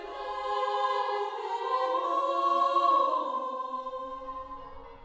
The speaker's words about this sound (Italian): Giovedì 2 gennaio 1823 le campane proseguivano a svegliare le suore e i vicini.